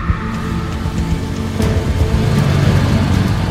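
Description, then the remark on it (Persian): The engine of a black Land Cruiser SUV rumbles steadily, then grows louder and fuller as it pulls away and drives on toward a park, a low droning motor sound with no voices. “لندکروز مشکی رنگ از کبیر جلو میره، جلوی پارک توقف میکنه.”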